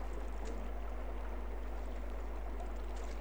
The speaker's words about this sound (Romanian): Vuietul mării? Nu, nu, Hercule, nu cred. Ce să fie atunci? Trage la mal, Hercule. E o cădere de apă.